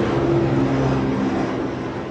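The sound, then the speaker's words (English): A steady engine drone with a low harmonic hum fills the background as a helicopter flies overhead, holding constant and then easing slightly toward the end. “There's a helicopter just flying over, by the way, so that's the noise in the background.”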